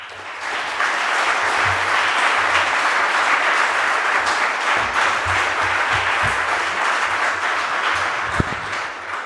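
Sustained audience applause, a dense, steady wash of many hands clapping at even loudness for several seconds, with no voices rising above it.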